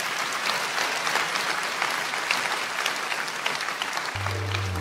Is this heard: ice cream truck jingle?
no